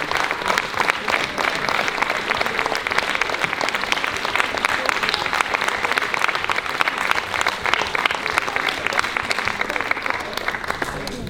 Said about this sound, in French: On les applaudit aussi.